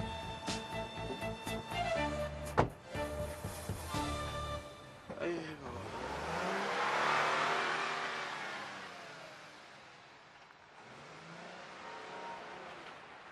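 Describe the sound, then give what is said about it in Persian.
A car engine revs loudly in several sharp bursts up close, then the car pulls away with a rising whoosh of tyres and motor that fades into the distance. “من حال میکنم با این ماشین امروز برم. تو با این ماشین برو.”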